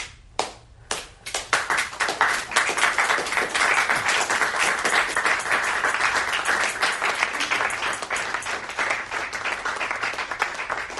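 A few scattered claps at first, quickly swelling into steady applause from a small group that continues at an even level for several seconds, close and fairly loud.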